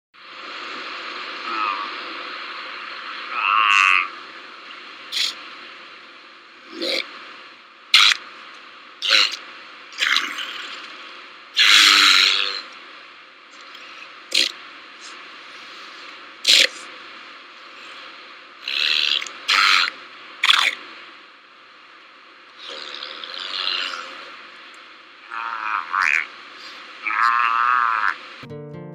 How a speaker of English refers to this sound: Their vocalizations can vary from a bubbling sound that originates deep in the throat for an alarmed adult to a more growling whoop sound when ascending from a dive. Listen to the sound of a Hawaiian monk seal.